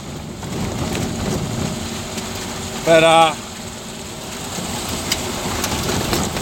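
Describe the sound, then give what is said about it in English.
A steady patter of gravel, flung up with mud on a dirt road, rattles against the underside of a car over a constant engine and road rumble, with a brief spoken word partway through. “but these dirt roads, it's got, you can hear the topping because you can hear the gravel hitting the underside of the car as it flings up with the mud, you know.”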